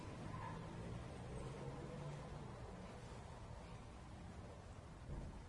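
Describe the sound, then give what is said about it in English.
A steady, faint wash of traffic noise from outside, with a low rumble and hiss that swells slightly near the end as a car goes by. No one speaks. “So here we are, and, you know, we've got cars going by outside, and we could have motorbikes too, just to make it a little juicier.”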